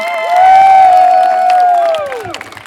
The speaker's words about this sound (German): Vielen Dank euch beiden. Einen großen Applaus für die beiden VorleserInnen.